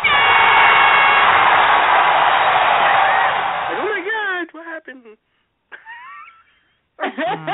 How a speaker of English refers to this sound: But this cheer sounds... Now, tell me if you clarify this cheering, because this sounds like someone's getting stabbed.